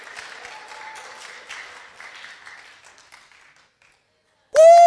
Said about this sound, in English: Cheer him on, guys, cheer him on.